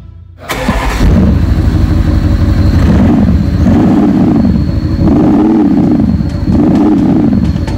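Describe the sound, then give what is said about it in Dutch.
The 4-litre V8 engine of a large white seven-seat car is started in the Autovilla car showroom in Naarden. It cranks and fires up at about half a second, then settles into a loud, steady rumbling idle with rhythmic rises and falls in its low throb. No one speaks. “Nou, we gaan eventjes achter de auto staan en dan ga jij hem starten.”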